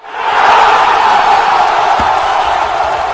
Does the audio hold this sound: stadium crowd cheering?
yes